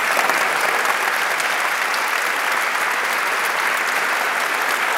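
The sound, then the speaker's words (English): Steady, sustained applause from a large audience fills the room, a dense wash of clapping at constant loudness for several seconds with no voices standing out. “And can we just have a round of applause for one person in particular?”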